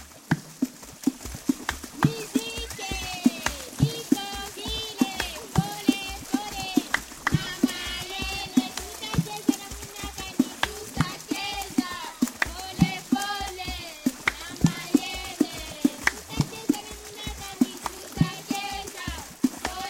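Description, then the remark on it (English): Hands beat out a steady, fast rhythm on river water, producing hollow, splashy slaps, while voices sing along over the drumming throughout. “On our planet, there are people who play rivers as if they were drums.”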